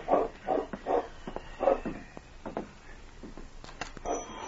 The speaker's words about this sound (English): As his hand reached for the lamp, he hesitated and listened. He was sure he had heard a dog bark.